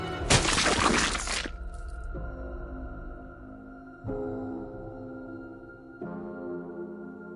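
A loud, harsh crash of a grandmother's body hitting the ground in a garden after jumping from a balcony, her skull cracking, lasting about a second, then giving way to low, ominous sustained tones that swell in three successive waves.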